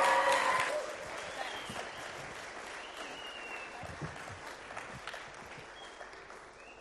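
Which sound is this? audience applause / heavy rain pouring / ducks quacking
audience applause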